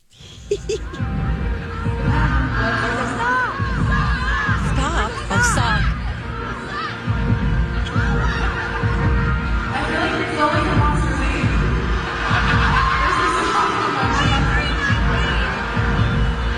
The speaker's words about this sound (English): We'll the audio's a little bad too, so you just kind of have to listen, but try to listen to what the audience is shouting at her.